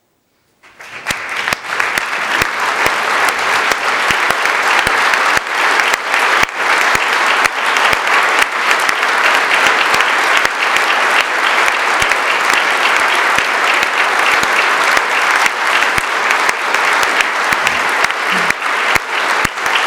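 Sustained audience applause: dense, steady clapping from a large crowd that starts abruptly and holds at an even, loud level for about twenty seconds with no voices standing out.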